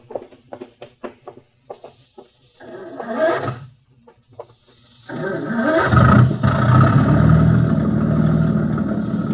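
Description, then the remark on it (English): A boat engine sputters through several short cranking bursts and a brief cough, then catches and settles into a loud, steady, rumbling roar as the boat gets ready to shove off. “You handle the engine okay?”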